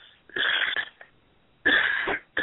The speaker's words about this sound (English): Isn't this awful? I have to stop and cough every 2 minutes.